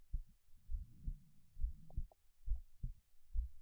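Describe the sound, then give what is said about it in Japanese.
A steady human heartbeat thumps low, its paired beats repeating at an even rhythm with a soft muffled hum between them, no voices present. “私の心音を聞いていると安心できる。”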